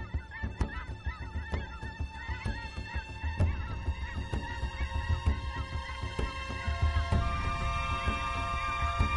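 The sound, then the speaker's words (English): A small flock of grazing dusky Canada geese in burnt straw in the center of a prairie honks steadily, overlapping calls rising and falling over a low background rumble, with no one speaking. “The long-necked, chin-strapped heads of a small flock of grazing, dusky Canada geese poke above their wispy, burnt straw shelter in the center of the prairie.”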